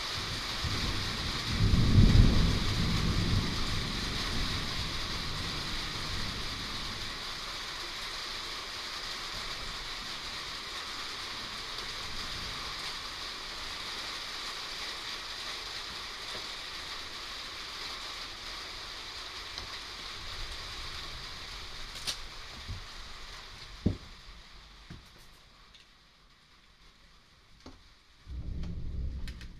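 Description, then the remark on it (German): Steady rain patters on a house roof in a dense, even hiss, with a low rumble near the start and a brief quieter stretch toward the end. No voices. “Regen macht das Haus hörbar.”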